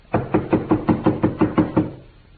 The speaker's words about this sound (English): Hey, you down there. What are you doing there? Knocking and banging, banging and knocking. Stop making too much noise.